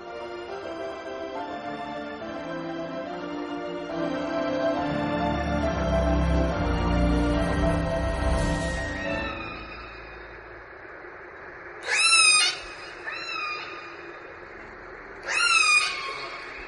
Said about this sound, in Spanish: Esto que escuchas es el sonido de una orca, sí, de un cetáceo, ¿no?, de la familia de los delfines, que puede llegar a medir hasta 9 metros de longitud y pesar más de 5 toneladas.